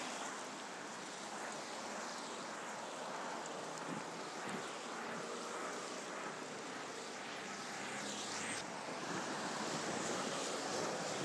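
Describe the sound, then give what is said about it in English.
Steady, loud rush of wind whistling past, a broad whooshing roar that barely rises or falls for about eleven seconds, with a fine hiss of drizzle blowing sideways mixed in and no voices, while approaching Gunnersbury Station. “Oh, the wind now whistling past and the drizzle now going sideways more than down.”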